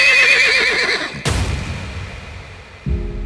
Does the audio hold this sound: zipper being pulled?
no